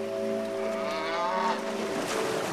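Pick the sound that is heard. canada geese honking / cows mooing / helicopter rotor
cows mooing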